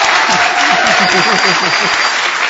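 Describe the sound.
Wild, dense applause roars steadily for the whole stretch, a loud hissing wash of many hands clapping at once, with a voice faintly talking underneath.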